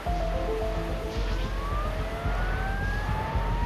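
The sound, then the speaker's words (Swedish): A ship's emergency siren wails during a pirate attack, sweeping up and down in pitch through a steady low rumble of engine noise, loud and continuous without any talking. “Medan sirenen för nödsituationer tjuter springer överstyrman Shane Murphy ner på däck.”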